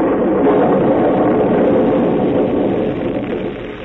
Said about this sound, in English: It was a nasty, miserable day. It was raining. The wind was howling. Then it began to thunder.